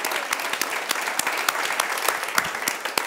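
Steady audience applause, a dense wash of many hands clapping with sharp individual claps popping out irregularly, sustained at an even, moderately loud level throughout.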